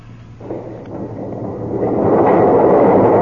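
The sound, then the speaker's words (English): Heavy doors grind open with a deep, rumbling scrape that starts over a low hum and swells steadily louder over about three seconds, with no voices. “The doors are opening.”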